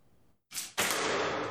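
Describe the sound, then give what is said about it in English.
Lars Andersen shoots modern arrows into riveted chain mail: a brief swish, then a sharp, loud impact that trails off into a sustained bright rasp, with no voices. “Here is shown Lars Andersen can easily shoot through riveted chain mail.”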